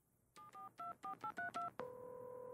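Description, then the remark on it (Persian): Seven quick telephone keypad tones beep in a steady sequence as a phone number is dialed to ask about hot air balloon rides, each a short dual-pitched blip, followed by a continuous ringing tone that carries on to the end. No voices. “شماره تلفن.”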